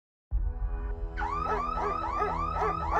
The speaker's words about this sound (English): The security alarms at their South Jersey home blared while the family Rottweilers barked ferociously.